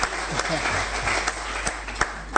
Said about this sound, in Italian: Gli facciamo un applauso, benvenuto qui al podio.